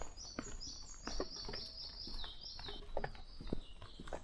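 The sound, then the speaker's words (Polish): A European pied flycatcher gives thin, high calls in quick succession, fairly clear, over scattered soft knocks and footstep-like clicks. “Operator mi ucieka, mam muchówkę żołobną teraz z drugiego podejścia.”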